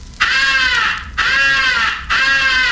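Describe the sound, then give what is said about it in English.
A highball crow call: three long, loud, raspy caws in steady succession, each drawn out for nearly a second with almost no gap between them, clear with no talking. “The highball crow call is sometimes advocated for attracting the attention of distant crows.”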